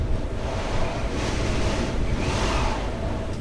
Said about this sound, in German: Es hat etwa 20 Stundenkilometer Wind. Ja, es sieht garstig aus.